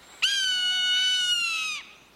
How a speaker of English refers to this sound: A soaring Swainson's hawk.